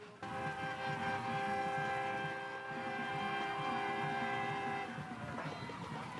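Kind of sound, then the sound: signal or alarm, siren wailing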